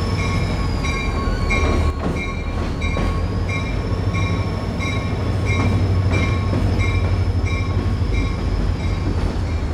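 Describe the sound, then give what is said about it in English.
A long freight train of oil tanker cars rolls steadily past, a loud continuous rumble with rhythmic wheel clacks and thin metallic squeals riding over it, with no voices. “Oh, that's one of the oil tankers. Oh, that's the bomb train.”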